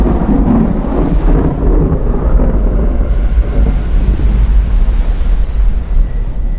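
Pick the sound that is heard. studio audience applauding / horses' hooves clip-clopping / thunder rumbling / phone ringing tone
thunder rumbling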